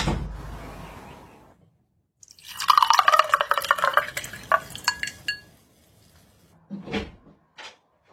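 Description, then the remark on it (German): A drink is poured into a glass for about three seconds, its gurgle rising in pitch as it fills, followed by a couple of short clinks or knocks. “Ich konnte gerade was Neues zu trinken einschenken.”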